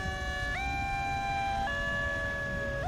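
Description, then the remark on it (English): Emergency sirens wail one after another, their tones stepping up in pitch every second or so, loud over a low rumble of traffic, with no voices, as emergency services respond to a disaster with casualties. “We had no idea of the extent of the casualties, but then we heard the sound that froze all of us. One siren after another.”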